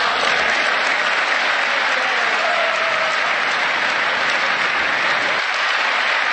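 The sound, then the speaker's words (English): Sustained audience applause following a speech line about rebuilding crumbling infrastructure, a dense, steady wash of clapping from many hands that holds at an even, loud level for several seconds with no speech over it. “They won't even applaud.”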